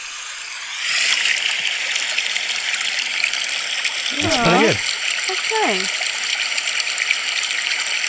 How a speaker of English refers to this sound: ASMR Babbling Brook is what I call it